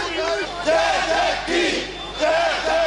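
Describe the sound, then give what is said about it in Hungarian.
A large protest crowd gathered at the City Hall in Miskolc shouts together in loud, rising waves of chanting and yelling, several surges over a few seconds, with a dense wash of many voices. Some beat on the City Hall door demanding that the mayor come out. “Az összegyűlt tömegből voltak, akik a Városháza ajtaját verve azt követelték, hogy a polgármester jöjjön ki.”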